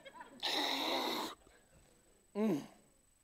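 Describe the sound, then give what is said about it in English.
A person imitates slurping water from cupped hands: a loud, airy sucking noise lasting about a second, then a pause and a short, throaty burst with a falling pitch. “That's the way it sounds when you drink out of your hands, by the way.”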